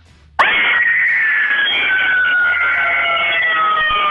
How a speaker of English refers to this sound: I need you to scream again